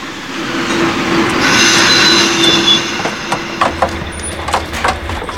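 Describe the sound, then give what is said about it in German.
A train rolls into the station at Nottingham with a steady rumble and a high metallic squeal from the wheels, then slows into a series of clanks and clicks as it comes to a stop. “Die anderen waren deshalb ganz froh, als der Zug endlich im Bahnhof von Nottingham einlief.”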